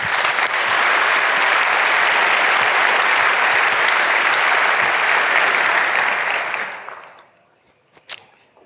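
A room full of people claps steadily for several seconds, a dense, loud wash of applause that fades out toward the end, leaving a few scattered final claps.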